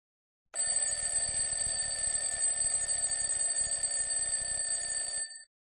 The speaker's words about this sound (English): alarm clock rang on the first morning of term